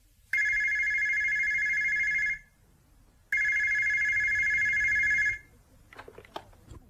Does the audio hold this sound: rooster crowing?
no